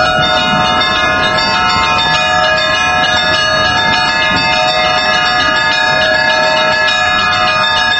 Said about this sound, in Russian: пройдет концерт колокольной музыки.